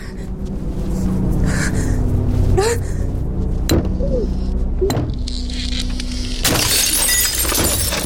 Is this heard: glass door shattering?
yes